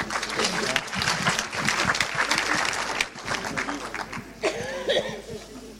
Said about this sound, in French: Je vous demande de les applaudir, s'il vous plaît.